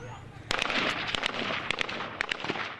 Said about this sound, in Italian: Usciti dall'aeroporto, oltre all'aria umida e riscaldata dell'estate cocente, si sentono in lontananza gli spari e la battaglia nel vivo, anche al buio. Prima di andare in albergo, con in sottofondo i colpi di mitragliatore Kalashnikov,